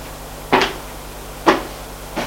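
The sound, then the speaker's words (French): A mirrored double door off a large corridor opening: three sharp knocking clacks spaced about a second apart, the last one softer, over a low steady hum with no one talking. “Grand couloir qui mène aux pièces, elle va à une porte à double battant avec des glaces.”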